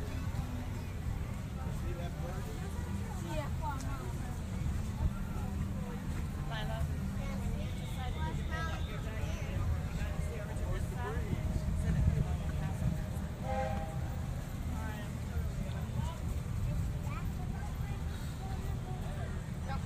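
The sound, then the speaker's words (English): Steady low rumble of a small boat ride on water in Liberty Square, a continuous engine-and-hull drone with a crowd murmuring and chattering throughout. “It is a boat ride.”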